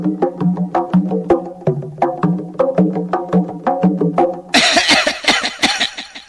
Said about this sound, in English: What a lot of coughing.